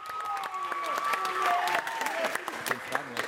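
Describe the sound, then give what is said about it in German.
A group of children at a children's assembly claps steadily in a dense, continuous patter of many hands, welcoming a group from the Willy-Brandt-Gesamtschule that is about to present a motion for a vote, with faint voices murmuring underneath throughout. “Wir haben geklatscht, um die von der Gruppe gerade zu willkommen.”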